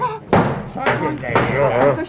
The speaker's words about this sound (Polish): Zaraz. Ktoś wyważa nasze drzwi.